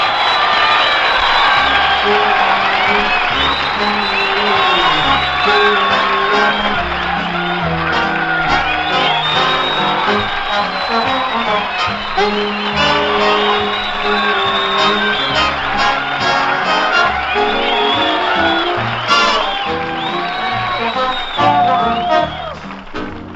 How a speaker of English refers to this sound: Say, we've got a real big crowd in the Armory tonight. My buddies, our friends, and a lot of other guests have piled in here to listen to our singing star of the month, ….